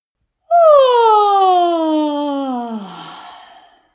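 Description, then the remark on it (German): A single long, voiced yawn, fairly loud, sliding steadily downward in pitch over a few seconds before trailing off into a breathy exhale. No other sounds accompany it. “Streiche anschließend dein Gesicht nochmal von oben nach unten aus und gähne.”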